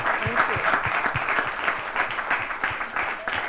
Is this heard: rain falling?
no